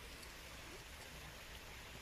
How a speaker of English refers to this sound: Can you hear the waterfall?